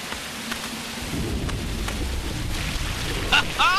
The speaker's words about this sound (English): It's raining hard.